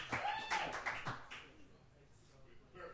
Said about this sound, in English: That did not get nearly as long as an applause break as I thought it was going to get, but that's okay. That's okay.